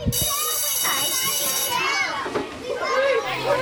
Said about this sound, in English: When I went to school, all I heard was a loud buzz of kids talking about whether Blythe Snowdon Cats won the netball and last night's episode of Home and Away.